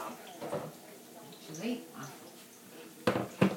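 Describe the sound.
Kitchenware clatters as a big jug is pulled out from among other dishes, ready to make hot stock. There are a few sharp knocks and a pair of louder clunks near the end, while a person talks quietly in between.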